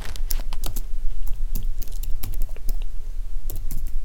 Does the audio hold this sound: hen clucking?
no